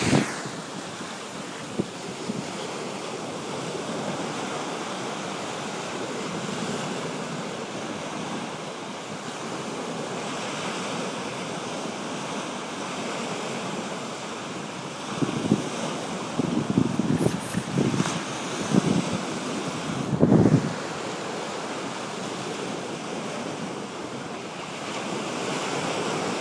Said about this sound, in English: Hope you love the sound of the sea.